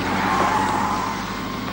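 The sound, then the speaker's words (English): A car drives by, steady engine and road noise filling the moment, with a thin tire squeal briefly rising as it swings through a turn. “That turn would put us on the Old Mill Road, sure.”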